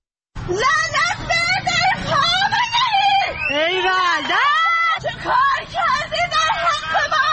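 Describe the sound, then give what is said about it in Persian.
A woman screams and wails loudly in long, rising and falling cries on a pedestrian bridge over a highway in Tehran on the morning of 24 Aban 1398, after a sudden multiple rise in gasoline prices, over a background of crowd hubbub and traffic. “صبح 24 آبان 1398 و فریادهای این زن روی یک پل عابر پیاده در بزرگراهی در تهران و مردمی که خود را از همه جا بی خبر می دیدند و ناگهان شنیدند که قیمت بنزین چند برابر شده است.”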